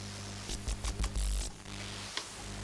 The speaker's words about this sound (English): No way, when I touch it on my penis, you can almost hear a radio. Oh, it's the zip on my jeans.